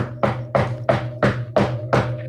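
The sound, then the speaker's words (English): Six sharp knocks on wood, struck very hard, land in a steady, evenly spaced rhythm, loud, over a low constant hum, with no voices. “But that was me knocking on wood.”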